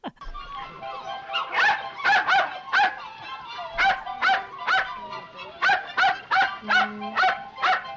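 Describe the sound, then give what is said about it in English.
Skippy, a wire-haired terrier, barks over and over in a clip from the film Bringing Up Baby, in quick, uneven bursts, sharp and fairly high-pitched, clear, with short gaps between the barks. “Those are memorable lines from Skippy.”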